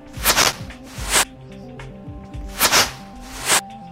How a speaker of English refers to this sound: Yeah, that's the arrow traveling. That's how much time you have to block the arrow.